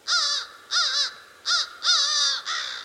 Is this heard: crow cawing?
yes